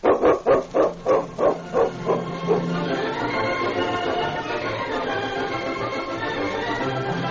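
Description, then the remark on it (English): A dog barks loudly, about eight quick, evenly spaced barks over the first few seconds, then falls silent as a steady, continuous wash of sound carries on to the end. “that's all in the day's work for King, isn't it, fella?”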